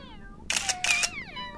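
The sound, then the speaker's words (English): Two quick bursts of a camera shutter clicking in close succession as photos are taken of cats in the evening, heard alongside soft, drawn-out cat meows before and after the clicks. “And Charlie takes some photos.”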